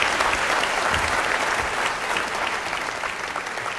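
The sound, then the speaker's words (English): A crowd at the close of a session applauds a team for the changes and progress they drove, a dense wash of many hands clapping at an even loudness that tapers only slightly toward the end, with no voices rising above it. “I want to really give you a round of applause for the changes you've driven and the progress we're making.”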